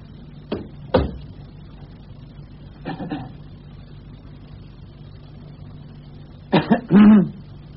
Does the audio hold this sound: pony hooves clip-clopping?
no